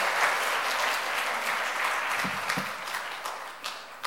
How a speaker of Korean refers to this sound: 큰 박수 부탁드리겠습니다.